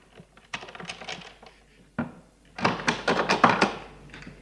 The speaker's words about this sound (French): Il entrebâille la porte et voit Charles prendre de l'argent. Le grand-père referme la porte.